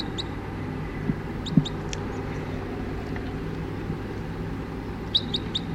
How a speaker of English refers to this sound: Stop. The recording, it's clocking about 20 crossbills just sat down in the trees here, and it's about 9 o'clock now, and one of the birds, an orange male, is in the net.